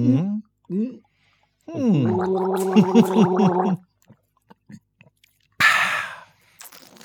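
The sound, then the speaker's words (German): Someone gulps down Bonnekamp herbal liquor (45 herbs, 40% alcohol), a few short throaty swallows followed by a long wavering gargly hum, small clicks, then a sharp breathy exhale after the liquor goes down. “Ein Bonnekamp, den wir uns jetzt schmecken lassen, 45 Kräuter, 40%, die uns nun die Kehle runterlaufen”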